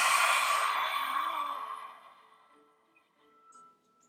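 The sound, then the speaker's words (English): A single forceful, breathy exhale, a yoga lion's breath, bursts out loudly with a broad hissing rush, then tapers off over about two seconds into quiet, leaving faint soft sounds behind. “Exhale, lion's breath.”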